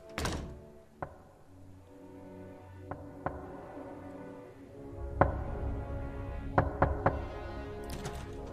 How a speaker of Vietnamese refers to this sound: Đứng một chốc lát, tôi bỗng nhiên nghe thấy âm thanh lộn xộn, có chút giống như tiếng gõ cửa, có lúc lại giống như là tiếng dậm chân, nghe thật sự đáng sợ.